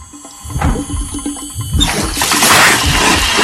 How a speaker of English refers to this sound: She takes a glass and turns on the tap.